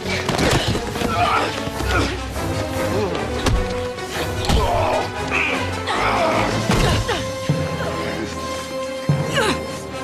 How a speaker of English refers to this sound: He raises the gun once more, but Renee grabs a handy shovel and smacks him through the glass of the nearby door. They fight.